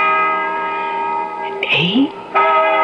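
A bell tolls the hour, its strokes counted six, seven, eight, with a loud, sustained ringing tone that hangs in the air throughout, briefly overlapped midway by a rising, voice-like sweep before the clear ringing resumes.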